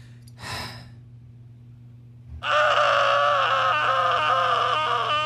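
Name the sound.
person screaming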